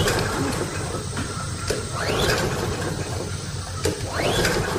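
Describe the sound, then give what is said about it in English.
A lawnmower pull cord is yanked twice, each pull giving a rising ratcheting whir as the engine turns over briefly but never catches, with mechanical clatter and hiss between attempts. “There's no need to pull your shoulder out of your socket. Gary is the small engine specialist, and he is your one stop for lawnmower repair”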